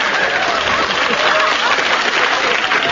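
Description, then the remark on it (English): An audience breaks into a steady round of applause for a glass of water thrown over Derek Nimmo, a dense wash of many hands clapping at even loudness for the full few seconds, with no voices standing out. “The round of applause was for the glass of water that I threw over Derek Nimmo.”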